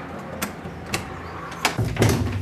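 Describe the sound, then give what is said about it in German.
A key works the lock of a door to a tall exhibition room of the Ruhr Museum with a few sharp metallic clicks spaced apart, then the door is pushed open with a low, heavier rumbling scrape. No one speaks. “Und jetzt geht's rein in die gute Stube und man hört es direkt vom Hall her.”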